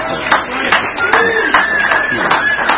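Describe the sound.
An audience claps steadily throughout, a dense wash of many hands at moderate loudness, with a few voices and a thin whistle-like tone mixing in.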